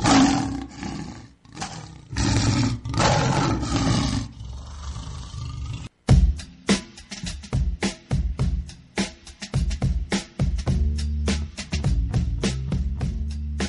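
A loud, rumbling big-cat roar sounds in several heavy bursts over the first few seconds, then breaks off abruptly into rhythmic music with punchy percussive hits.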